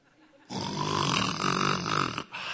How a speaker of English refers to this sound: And then I could hear my dad snoring. And he was loud. But you know that snoring? For some people, it keeps you up. For me, it put me right to sleep because it said, hey, my dad's here.